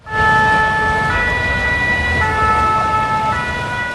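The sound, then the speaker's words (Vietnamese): An ambulance siren wails steadily, its tone shifting in a repeating pattern over heavy low traffic rumble, loud with no voices, at the scene of an Israeli strike on a multi-storey residential building near the Kola intersection in central Beirut. “Các video từ hiện trường cho thấy xe cứu thương và đám đông tụ tập dưới tòa nhà, nơi cuộc tấn công dường như nhắm vào một căn chung cư.”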